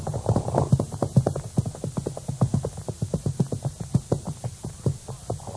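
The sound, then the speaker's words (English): Rapid, steady clip-clop of hooves as horses, including one called Topper, trot toward a watering pond in a cottonwood patch, dense overlapping hoofbeats in a quick rhythm with no voices. “These poor horses certainly are anxious to get to that water.”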